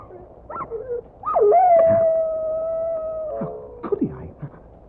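A dog that has just been hit by a car lets out a long, steady howl lasting about two seconds, framed by short yelping whines before and after. Fairly loud, with no talking.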